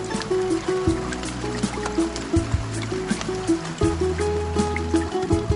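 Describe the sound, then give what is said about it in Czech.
Rain patters and drips steadily throughout, a wet, trickling wash with scattered sharper droplets, set against a low sustained musical drone. No one speaks. “Pretvaram se u kišnu kap. Pa da! Sa drugim kapima kiša.”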